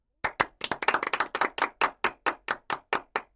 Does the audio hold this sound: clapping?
yes